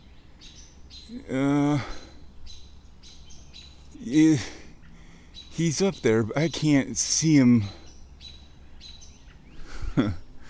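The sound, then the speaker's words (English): Small birds chirp and scold at an owl in repeated sharp, high alarm calls scattered through the background, steady, while a man speaks in short bursts over them. “And the little birds don't like him, no. They're complaining and yapping and wondering about”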